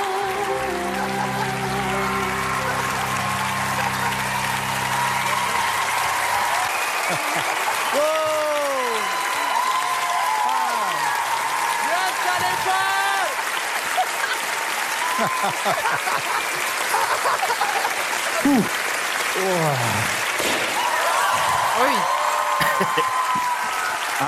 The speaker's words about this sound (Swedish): De tycker om dig. Fortsätt klappa.